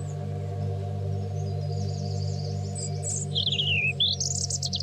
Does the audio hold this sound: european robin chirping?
yes